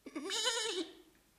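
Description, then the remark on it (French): A single high, wavering bleat from a young goat kid answering its mother, clear, lasting under a second before trailing off into quiet. No talking. “Le chevreau se réveille.”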